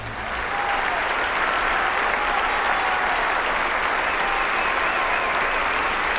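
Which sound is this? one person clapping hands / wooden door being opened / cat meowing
one person clapping hands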